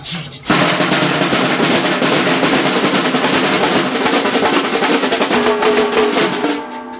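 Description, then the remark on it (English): A section of Brazilian caixa snare drums in a samba bateria plays a fast, driving samba groove, dense rapid strokes rattling steadily and loudly for several seconds before easing off slightly at the end. “The caixa is the Brazilian name for snare drum.”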